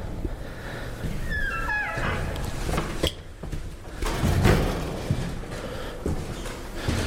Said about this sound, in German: Und hier ist dann gleich das Zimmer Nummer 4. Eine schöne alte Tür, hat aber ein modernes Schloss eingebaut.